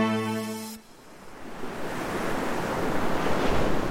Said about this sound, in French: Imaginez-vous sur une île déserte, le seul bruit des vagues vous caressant l'oreille, la sensation du sable chaud sur vos pieds, et personne, absolument personne, pour troubler votre repos.